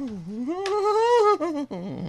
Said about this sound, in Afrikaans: Dit is die singende saag